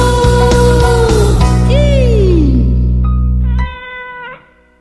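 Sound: kitten meowing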